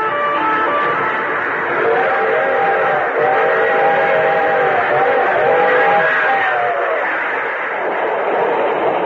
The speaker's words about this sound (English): Picture this. A string of freight cars crossing a dusty stretch of lonely farmland.